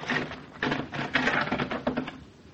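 A heavy carriage house (garage) door is hauled open with a run of uneven wooden clacks and rattling scrapes, moderately loud and continuous for a couple of seconds, with no voices.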